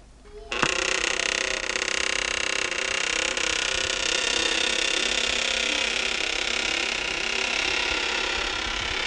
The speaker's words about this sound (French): Mais ouvrons-la. Ensemble, ils tirent la porte qui se met à grincer comme une petite misère.